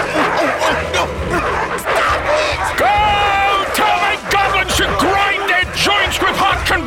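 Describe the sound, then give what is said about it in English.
A pack of hunting dogs, named Fury, Prince and Tyrant, let loose by a huntsman, barks and yaps nonstop in a loud, frantic chorus, sharp overlapping barks mixed with higher yelps and whines, with voices caught up in the commotion. “And now, let loose your dogs!”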